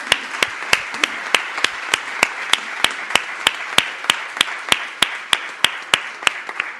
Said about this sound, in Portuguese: E agora só um aplauso para todos eles, já que não aplaudimos individualmente.